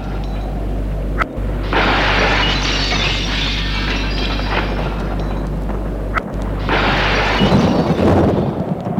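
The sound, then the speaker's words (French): Heavy rain pours steadily while deep, loud rumbles of thunder roll through, swelling twice into broad crashing surges over a constant low roar, with no voices. “La pluie entre, les éclairs éclairent l'intérieur. L'air tonne, les éclairs illuminent.”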